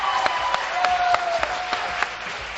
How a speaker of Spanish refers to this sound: ¡Venga, un aplauso, hombre! ¡Vamos!